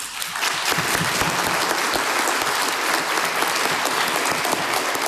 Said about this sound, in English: So I hope you can join me in welcoming her with a very, very warm applause.